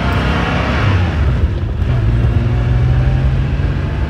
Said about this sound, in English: But it's also not exactly modern sounding. The company feared that its noise would get regulated out of existence. In the 911, all the noisemakers were in the back. The intake manifold, the chortling, air-cooled flat-six engine, the flatulent exhaust